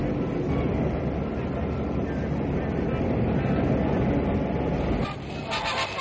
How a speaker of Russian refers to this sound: Наш микрофон на перроне белорусского вокзала. Минута на минуту сюда должен прийти поезд из Берлина.